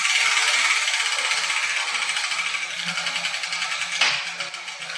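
A cupboard is shaken, rattling and clattering steadily for several seconds in a dense jangling shake, then a sharper knock near the end as the Arabic letter Alif drops out, followed by softer rattling.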